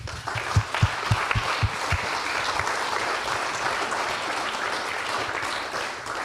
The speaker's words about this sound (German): Dafür schon mal einen ganz großen Applaus.